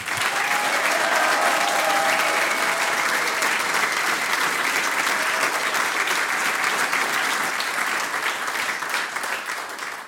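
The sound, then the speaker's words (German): Sustained applause from an audience at a radio recording, honouring the youngest performer for her two harmonica solos in a Styrian harmonica competition; a dense wash of many hands clapping at a steady, loud level for the full ten seconds, with no voices standing out. “Vielen Dank, liebe Juliane Strasser, der Applaus gehört dir.”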